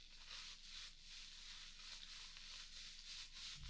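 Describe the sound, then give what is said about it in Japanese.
Steady rubbing and scrubbing of a body being washed with lathered soap at bath time, with a soft, foamy texture, repeating in gentle rhythmic strokes with no voices. “よし、じゃあ早速体洗いましょう。”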